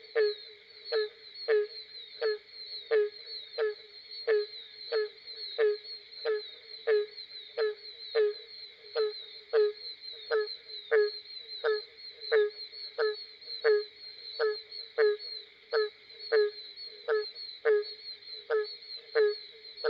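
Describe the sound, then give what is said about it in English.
A barking tree frog calls steadily in a southern swamp at night, giving a long series of loud, evenly spaced hollow barks, roughly one or two per second, over a constant high insect-like drone. “The barking tree frog.”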